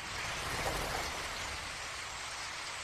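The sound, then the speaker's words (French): A flock of birds: a dense, steady rushing whoosh, like countless wings beating together, swelling slightly in the first second and holding at an even level throughout, with no voices. “C'est une nuée d'oiseaux.”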